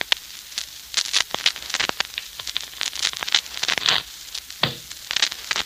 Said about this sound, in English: The sound of shuffling cards can be dangerous music to certain ears, particularly to Mark Easy's.